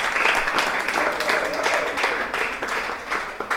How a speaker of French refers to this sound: On peut quand même l'applaudir.